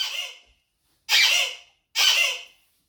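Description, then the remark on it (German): Three hiccups sound alone, about a second apart, each a sudden breathy, squeaky burst that fades quickly. The second and third are fuller and stronger than the first. “Jedes Mal wurde der Schluckauf einfach lauter und stärker.”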